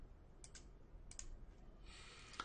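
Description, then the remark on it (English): A few soft, quick clicks of computer keyboard keys being pressed, including F12 to go to an event handler while writing code, coming in two small pairs against a faint, steady background hiss, with no one speaking. “I'm going to go to that new event handler using F12 on my keyboard.”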